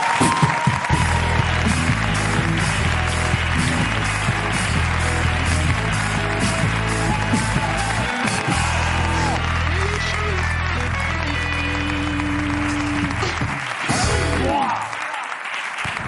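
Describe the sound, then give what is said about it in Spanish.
An audience breaks into loud, sustained applause for Joaquín Reyes and a boxer, a dense wash of clapping that holds steady for about sixteen seconds before thinning slightly at the very end. “Un aplauso para ellos.”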